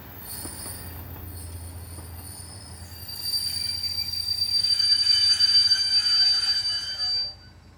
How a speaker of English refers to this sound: But not long afterwards, these trains, filled with the deceased and the mourners, had to grind to a halt again.